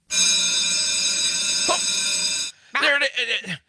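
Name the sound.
bell ringing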